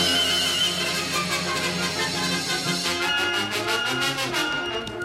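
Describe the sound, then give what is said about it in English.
A horse ridden by a masked man whinnies loudly, a long, shrill, wavering neigh amid a dense, busy background that turns rhythmic and pulsing toward the end. No one speaks. “yonder comes a masked man riding a horse”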